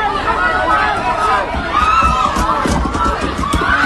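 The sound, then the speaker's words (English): A loud, dense crowd commotion at an anti-ICE protest in Fairview, from online video, where police say a woman drove into the crowd: many overlapping voices shouting and clamoring, with scattered sharp bursts and thumps running steadily throughout. “That is the sound from online video.”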